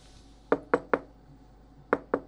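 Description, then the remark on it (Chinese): Someone knocks on a door as a visitor arrives: two sets of three firm, evenly spaced raps, separated by a short pause. The knocks are fairly loud against otherwise quiet surroundings, with no talking. “我情人到了，别碰我，我去开门。”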